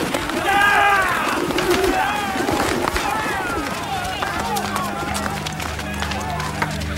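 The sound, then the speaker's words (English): Pigeons kept by pigeon sellers coo and warble amid bursts of flapping wings, over a busy murmur of voices, with a steady low drone entering toward the end. “And he ordered those who sold pigeons, take them out of here!”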